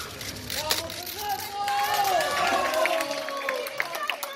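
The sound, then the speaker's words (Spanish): A crowd shouts and cheers for coach Fernando Vázquez at his presentation, calling "vamos, Fernando, sí se puede", many voices overlapping in a steady, dense roar with individual rising calls standing out, plus a few sharp claps or bangs. “Había gritos para Fernando Vázquez y vamos, Fernando, sí se puede”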